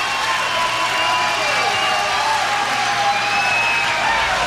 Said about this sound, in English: You can hear the crowd reaction and...